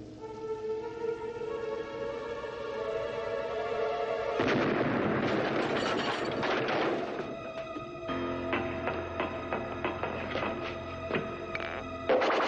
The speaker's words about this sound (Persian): داره تیراندازی میکنه.